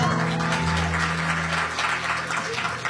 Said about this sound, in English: Yeah, I'm going to be honest with you. That's a little awkward for me. I do not like getting applauded.